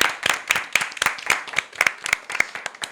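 A short burst of applause: dense, irregular claps from a few people, crisp and bright, steady in loudness for a few seconds with no talking over it.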